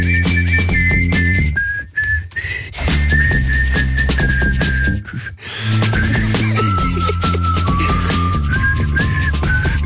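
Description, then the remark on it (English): Radio presenter Toby Tarrant whistles a bright, wavering tune on Radio X over a steady backing track, with a couple of brief breaks before the melody carries on, clear with no talking. “Toby Tarrant has your request hour, and he's so excited he's now going to whistle.”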